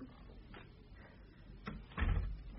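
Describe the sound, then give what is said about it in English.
A door is pushed shut, with a couple of faint creaks and scrapes followed by a heavier, low thud as it closes. No one speaks. “close the door, will you?”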